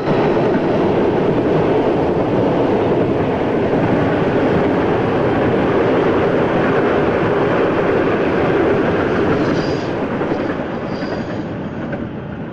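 train passing close by

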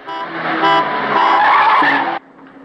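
car speeding past

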